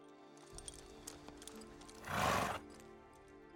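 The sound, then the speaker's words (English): A horse gives one loud, breathy neigh near the middle, preceded by a few faint, scattered hoof clops. No one speaks. “Your horse is waiting for you.”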